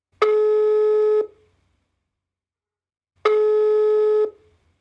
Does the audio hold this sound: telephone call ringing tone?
yes